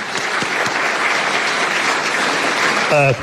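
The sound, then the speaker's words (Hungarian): Steady, dense applause from an audience at a school awards event, for a route leader of the bicycle touring camp, fills the whole stretch, loud, with a brief voice cutting in near the end. “Nagy tapsot”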